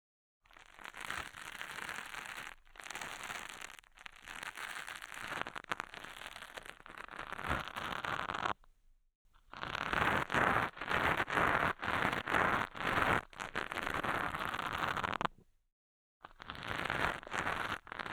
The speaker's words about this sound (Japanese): はい、それじゃあもう少し耳かきしようか。